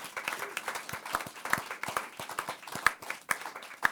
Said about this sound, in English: Let's give Louis a round of applause.